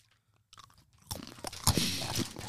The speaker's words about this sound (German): Ich finde das unfassbar, dass du während des Podcasts isst. Was hast du da? Brezel, ne?